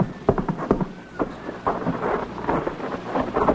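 A steady tramp of many soldiers' marching feet, a dense run of heavy rhythmic thuds and crunches that swells in loudness partway through, with no voices.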